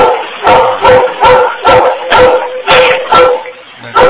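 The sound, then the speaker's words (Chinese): A dog at someone's home barks repeatedly in a steady, rapid rhythm, about eight sharp barks in four seconds, fairly loud, with no talking. “你家这个狗啊？”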